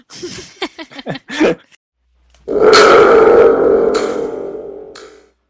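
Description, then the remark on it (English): A few short, choppy bursts give way to a thunder tube's loud, sustained rumble, a deep, roaring, boomy wash that holds for about three seconds before fading out. “I have a thunder tube.”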